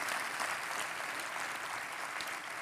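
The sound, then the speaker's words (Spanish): An audience applauds steadily, a dense wash of many hands clapping at an even, moderate level with no voices standing out. “Dime que no es una verdad poderosa, digna de un fuerte aplauso, Señor.”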